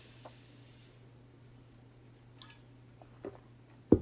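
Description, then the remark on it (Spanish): A speaker pauses in a talk to take a quick sip of water: a few soft wet mouth clicks and a swallow over a steady low hum, ending in a sharper thump. “Perdón, permítanme tomar un poquito de agua.”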